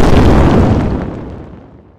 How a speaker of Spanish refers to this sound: Y ahí fue cuando escuchó una explosión, así que lo terminó por dejar sin el sentido de la audición.